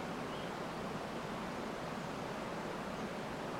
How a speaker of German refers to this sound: Ihr nehmt eine Weile Platz an diesem Wasserfall und beobachtet, wie etliche Liter Wassermasse von den Felsen in die Tiefe stürzen.